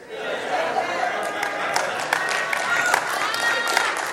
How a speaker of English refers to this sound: Now, on the other side, now, before you folks get to applaud too much, there are some times when the Holy Spirit will hijack your emotions.